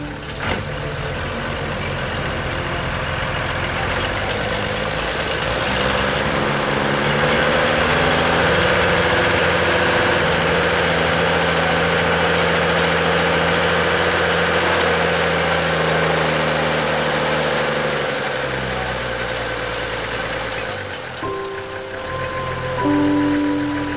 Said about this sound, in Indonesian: Taruman melihat padi-padi yang siap panen itu dihancurkan tanpa ampun oleh buldoser. Telinganya mendengar cerit tanah yang melengking menahan sakit dari alat penggusur itu yang terus-menerus mencabik-cabik.